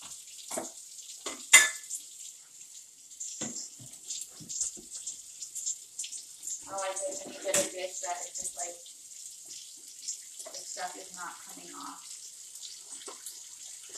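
A kitchen tap runs steadily with a bright, hissing stream while dishes are rinsed off beneath it before going into the dishwasher, plates and utensils clinking and clattering now and then.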